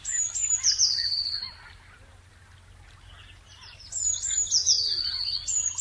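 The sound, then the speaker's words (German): A blue tit sings about half an hour before sunrise in two bright, high trilling phrases separated by a quiet gap, with faint background chirping from other birds and a low steady hum underneath. “Ungefähr eine halbe Stunde vor Sonnenaufgang erwachen dann die Blaumeisen, die sich schon etwas lauter bemerkbar machen.”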